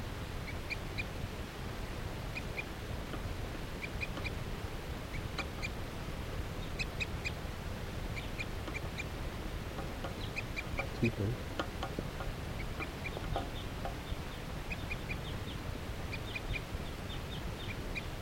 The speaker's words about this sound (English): Wild bird has perched up in the tree along the net.